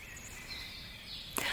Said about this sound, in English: Oh, danke, liebe Grille, dass ich dich gerade hören kann. Thank you, dear Cricket, that I can hear you right now.